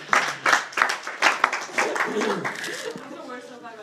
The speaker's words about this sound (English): Oh, here we go. Should we give the golf slow clap? You want the clap?